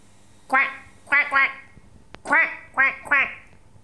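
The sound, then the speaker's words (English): A human voice imitates a duck, giving six loud, nasal quacks in quick uneven pairs with short pauses between them. “Duck.”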